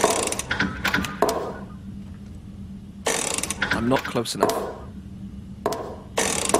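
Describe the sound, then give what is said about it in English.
The combination lock dial on the locked door to Vault C in a video game spins with dense ratcheting clicks in several bursts separated by pauses, a dry rapid ticking over a low hum, with a brief spoken line mixed in. “I could spin this dial all day. And I probably will, given I don't know the combination.”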